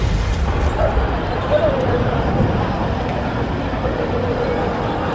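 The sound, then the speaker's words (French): A heavy tank engine restarts on an avenue and rumbles steadily, a dense low growl that holds at an even, fairly loud level throughout, with no pauses. “Soudain, le char sort de sa torpeur et redémarre.”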